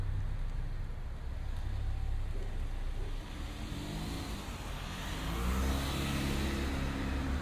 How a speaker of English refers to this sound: Oh, this car's coming by.